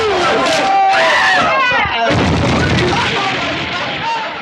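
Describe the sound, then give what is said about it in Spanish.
Loud crowd uproar on an avenue with shouting voices, then a sudden blast of gunfire at about two seconds, followed by a dense, continuous din of shots and commotion that stays loud to the end. “¡Esos disparos!”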